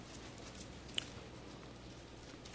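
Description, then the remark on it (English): Steady rain patters continuously in the background, soft and diffuse with a faint hiss, with one brief sharper tap partway through and no voices. “Which, if it keeps raining like this, you're going to need something to get up for tomorrow morning, right?”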